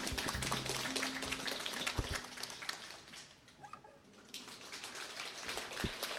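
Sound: audience applause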